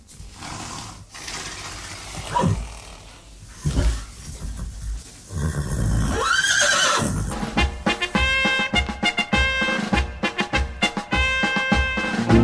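A horse lets out a few short snorting calls, then a long, loud, quavering whinny that rises and trembles, with no one speaking.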